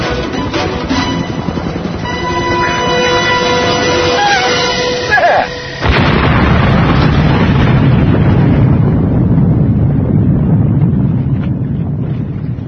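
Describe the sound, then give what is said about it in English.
A sudden, loud explosion-like blast cuts in partway through and gives way to a sustained, roaring rush of noise that stays heavy until the end. “That was like an explosion.”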